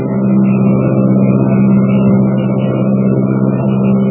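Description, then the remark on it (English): An airplane engine drones steadily as the plane flies southward through the night over New Mexico, Texas and the Rio Grande, a continuous low, throbbing hum with layered harmonic tones that holds an even loudness throughout, with no voices. “New Mexico, Texas, the Rio Grande, and the slim silver shadow of the plane threads its way southward through the night.”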